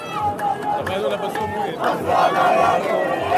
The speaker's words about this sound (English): The first prisoners, young teenage boys, many of them detained for throwing stones or Molotov cocktails, arrived here in Ramallah long after dark, and this massive crowd erupted in cheers, carrying them on their shoulders.